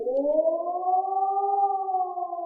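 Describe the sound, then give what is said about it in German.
A civil defense siren in Brandenburg, Germany, sounds the one-minute rising and falling warning tone of a warning drill. Its harmonic tone wails steadily, slowly rising in pitch and beginning to level off, loud and continuous with no voices. “Ein auf- und abschwellender Ton, 1 Minute lang.”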